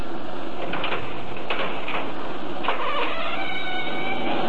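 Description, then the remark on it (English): A room door, its knob turned slowly, creaks slowly open in a long, wavering squeal, its pitch bending up and down over a steady hiss for several seconds, with no voices. “All right, the door's opening.”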